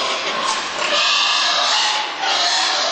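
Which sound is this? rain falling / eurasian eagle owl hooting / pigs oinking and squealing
pigs oinking and squealing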